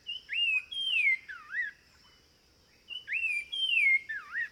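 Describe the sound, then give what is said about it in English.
A Nava's wren sings two clear bursts of whistled, sliding notes separated by a short pause, rich, with a faint steady high hum in the background and no talking. “But listen to the Nava's wren sing.”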